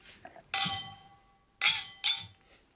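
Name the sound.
cocktail glasses clinking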